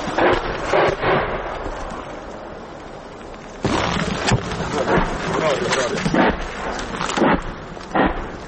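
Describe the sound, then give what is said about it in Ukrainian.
Grad multiple rocket launchers firing several rockets at a time, then changing coordinates, moving and firing again: a series of loud, rumbling bursts at irregular intervals, some in quick pairs, over a steady wind-like roar that lasts throughout. “А це вже працюють гради. Кидають по кілька снарядів, змінюють координати, переміщуються і кидають знову кілька снарядів.”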